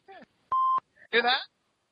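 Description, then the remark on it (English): A single loud, steady electronic beep lasting about a third of a second, set between short bursts of a voice before and after it. “Beep though.”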